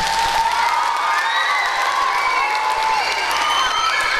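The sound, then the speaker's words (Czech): An audience claps and cheers loudly and steadily, dense applause filling the whole stretch while high excited voices and whoops rise and fall above it. “Zatleskáme, výborně.”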